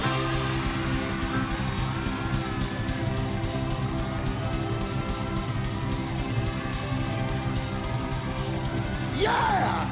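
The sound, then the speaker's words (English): A large concert audience screams and yells together on cue after a count of three, in a sustained, loud roar of overlapping voices, with a sharp rising whoop near the end. “On the count of three, I want you to scream like you're crazy.”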